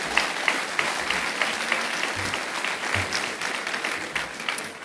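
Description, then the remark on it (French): A crowd applauds steadily, a dense wash of many hands clapping at an even level for the whole stretch, with scattered sharper claps and a few low thumps underneath, honoring two women at an official ceremony attended by the prefect and elected officials. “Donc, comme vous allez sûrement applaudir, je pense beaucoup à elles quand vous les applaudissez.”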